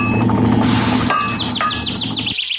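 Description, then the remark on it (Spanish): A European robin chirps in a quick run of high, falling notes over a steady low mechanical hum, the calls growing busier before stopping abruptly. “Ouvir o lonxe martillar o ferro, que prazer, e tamén de paso piar de algún papo rubio.”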